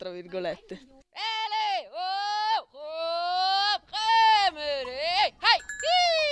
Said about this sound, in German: Er stammt von einem Ziegenhirten, der hier den Sommer verbringt. Wir locken und rufen die Ziegen mit bestimmten Lauten, die sich immer wiederholen, damit die Tiere zum Besitzer kommen, dem Anführer des Rudels sozusagen.